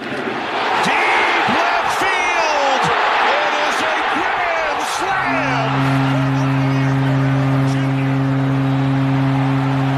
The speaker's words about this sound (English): You know it's a good game when you can't even hear the announcer over the crowd.